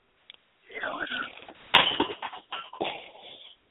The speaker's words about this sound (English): I don't know if you heard that, but I just broke glass.